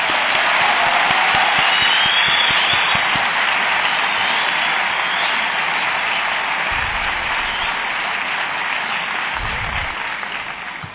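An audience applauds steadily for about eleven seconds to thank a friend who translated for the visitors in Iran, a dense, hissy wash of many hands clapping at once that holds loud and even before thinning slightly at the end.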